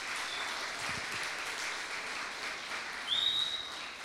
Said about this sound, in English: Let's give him a clap.